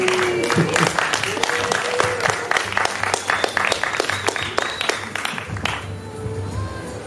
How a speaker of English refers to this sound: So let's give him a big hand.